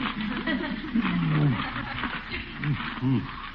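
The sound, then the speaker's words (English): A cat growls low and throaty in several drawn-out bursts inside a dark dug-out tunnel, the pitch wavering up and down over a steady rough hiss, with no talking. “What's that? Is that you, Leroy? Oh, a cat.”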